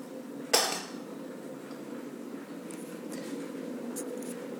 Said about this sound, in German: Nimmst etwas Tee in die Teekanne.